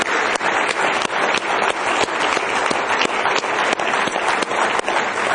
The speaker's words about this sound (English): Somebody say praise the Lord. Let's give the Lord a real good hand clap of praise tonight.